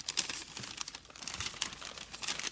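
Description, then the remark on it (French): Soft paper rustling and crinkling with several quick crackles as a slip of paper with a word written on it is picked from papers on a table and unfolded, with no voices. “Les papiers sont devant vous, sur la table, et vous pouvez en piocher un et nous dire ce que ça évoque.”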